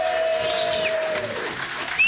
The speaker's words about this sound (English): And thank you to our wonderful audience here at Peter Coles. Give us a cheer.